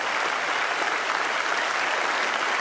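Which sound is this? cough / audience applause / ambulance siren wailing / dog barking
audience applause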